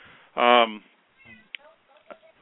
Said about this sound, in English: I've just been joined by my cat, who's very noisy. You're going to hear a cat here in the background here.